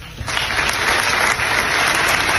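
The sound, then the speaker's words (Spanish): Dense applause from a crowd at a tribute by the Colegio de Abogados de Castellón to Carlos Fabra, former president of the Diputación de Castellón, for 50 years as a member. A steady wash of many hands clapping rises quickly after a brief quieter start and holds at a strong, even level throughout. “Y estos aplausos”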